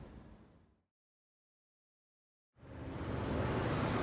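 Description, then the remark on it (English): A bus engine rumbles and fades out, then after a brief silence a loud vehicle roar swells in and holds steady as the bus pulls up, with no voices. “That's my bus.”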